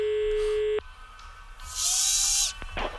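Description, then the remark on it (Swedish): A tattoo machine at Snake Tattoo, a tattoo studio on Andra Långgatan, tattooing a customer, gives off a steady, high-pitched electric buzz that cuts off abruptly, followed by a louder stretch of hissing, whirring noise and a few short mechanical clicks. “Det är så att jag sitter med en kund här och gör en tatuering på,”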